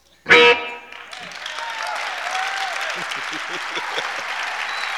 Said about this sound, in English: Thank you for the hands, the sounds of your hands.